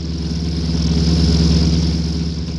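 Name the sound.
car engine driving off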